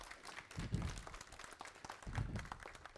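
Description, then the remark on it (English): An audience in a church applauds three men standing, a steady, dense patter of many hands clapping for the full three seconds, fairly soft overall, with a couple of brief low swells of crowd voices mixed in. “So let's give all of them a round of applause.”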